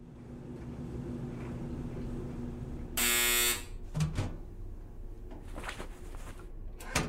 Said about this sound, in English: Then what do I do? Throw a pillow in your dryer.